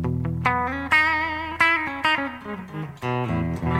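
Distorted electric guitar on the bridge pickup, played alone: a handful of bright, crunchy chords and notes struck in an uneven rhythm, each ringing out with thick, buzzing sustain, fairly loud.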